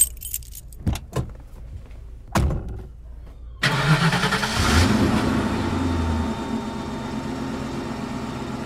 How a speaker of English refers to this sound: Here are the keys, ma'am.